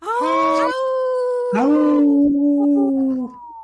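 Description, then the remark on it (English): Human voices join together on the radio show Native Roots Radio Presents I'm Awake in imitated wolf howls: a short rising howl, a brief pause, then a longer, loud, sustained howl that slowly falls in pitch and trails off. “Wow, we should record that one and use that one forever.”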